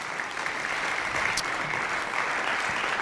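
A crowd applauds steadily, a dense, even wash of many hands clapping at once that holds at a constant moderate loudness from start to finish, with no voices standing out.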